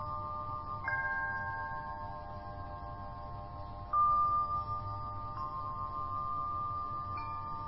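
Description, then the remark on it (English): A meditation bell is struck about four times at uneven intervals, each clear tone ringing on and slowly fading into the next over a soft, low background hum. “Do you come and go, like the bells, sensations, and thoughts?”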